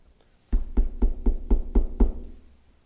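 Seven firm, evenly spaced knocks on a door, close and fairly loud with a solid low thud, coming in a steady rhythm with no voices around them.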